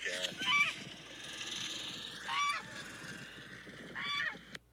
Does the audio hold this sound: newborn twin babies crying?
no